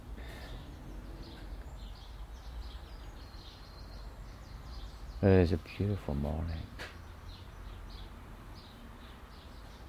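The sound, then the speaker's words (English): Faint, scattered birdsong chirps and twitters in a garden on a sunny, clear, very calm summer morning run steadily through the whole stretch, with a man's voice briefly speaking over them partway through. “It's this bird sound you would expect to hear in a summer's morning, a good summer's morning.”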